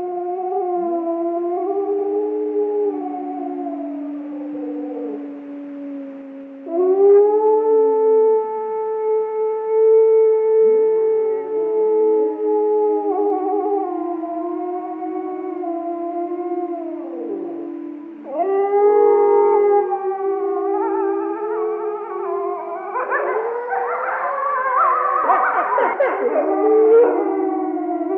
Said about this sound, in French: Alors un hurlement là, hein, un hurlement assez typique qu'on ne rencontre par contre pas souvent. Non, c'est très rare, mais alors quand on l'entend dans la nature, en vrai, ça m'est arrivé au Canada